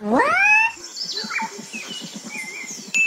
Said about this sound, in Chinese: 它叫做角蛙，原生在中南美洲野生种，除了吃昆虫蜗牛以外，也会吃小鱼、小蛙、小老鼠等小动物，是世界上最好入手的宠物蛙哦。